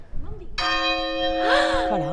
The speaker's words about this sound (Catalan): Les campanes no se poden tocar a destemps, però un cop de la Caterina, la de 1305, tampoc passaria res. A veure si se sent.